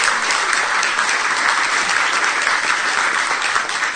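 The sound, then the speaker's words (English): A crowd claps steadily for several seconds for travelling preachers, a dense, even wash of applause that stays loud throughout with no voices standing out. “How about a round of applause for our travelers and preachers?”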